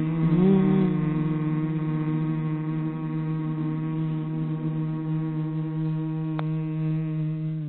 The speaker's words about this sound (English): And then very slowly, when you feel ready, you can have that breath go into a sound, the sound of a hum.